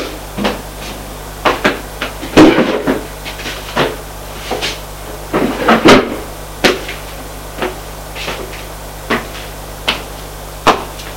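A desk drawer is handled as a book is put into it, with a series of wooden knocks and clunks and two louder bursts of sliding and bumping as it opens and shuts. No one speaks.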